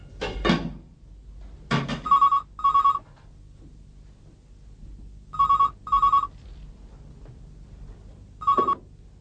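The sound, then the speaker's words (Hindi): A phone rings on an outgoing call, heard as a repeating double-pulse ringback tone with pauses in between, after a couple of handset clatters at the start. No one speaks. “मैं एक टेलीफोन कर सकता हूँ?”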